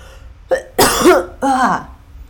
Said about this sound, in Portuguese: Tosse. É cough. Cough. Com uma sílaba só.